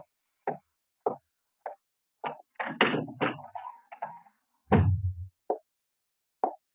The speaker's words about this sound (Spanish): Y cierra la puerta.